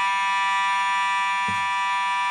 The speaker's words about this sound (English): we're experiencing an alarm here and a fire alarm here at our GPP studio